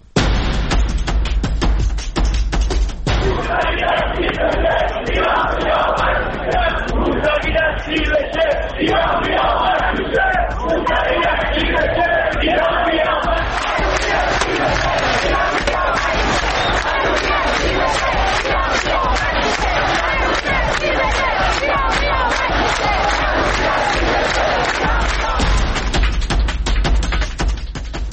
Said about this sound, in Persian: پنج سال میگذره از روزهایی که این شعارها در کوچه و خیابان فریاد زده میشد.